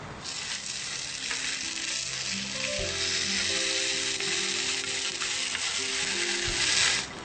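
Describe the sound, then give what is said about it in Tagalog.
Steady, crackling sizzle of an eggplant omelette frying in oil over low heat, a dense hiss with small pops running unbroken for several seconds and no voices. “Mas maganda kung mahina lang ang apoy upang ang kalalabasan nito ay maganda.”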